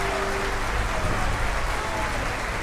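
Steady applause from many hands, a dense, even wash of clapping that holds at a constant loudness throughout, with a faint tone briefly audible underneath near the start.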